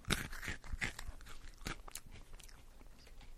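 Crunching of a brittle malted milk ball candy (a Malteser/Whopper): a few sharp, loud crunches at first, then softer, irregular chewing that fades. No one speaks.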